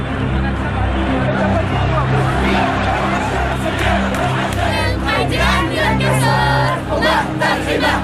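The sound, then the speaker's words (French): A large crowd of thousands of young protesters shouts and chants in the streets of Tunis, Tunisia, on 13 January 2011, in a dense, continuous roar, many voices overlapping with rising cries and bursts of yelling, loud throughout with no pauses. “Les jeunes semblent avoir saisi cette occasion pour crier leur ras-le-bol. C'est par milliers qu'ils sont dans les rues.”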